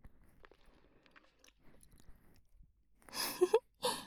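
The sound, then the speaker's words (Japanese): Wet mouth sounds imitating many tentacles wrapping around and nibbling the outside of the listener's ear: soft smacking and murmurs at first, then a louder burst of slurpy chewing noises near the end. “いっぱいの触手が君のお耳の外側包んで、あんぐあんぐあんぐあんぐ、お耳食べられて気持ちいい。”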